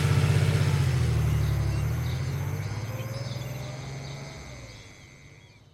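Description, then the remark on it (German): A car engine rumbles loudly, then steadily fades as Mark drives away from the estate toward the city, with faint birdsong in the background and no voices. “Um dem Überwachungssystem von Sima zu entgehen, verließ Mark hier das Anwesen und fuhr mit dem Auto in die Stadt.”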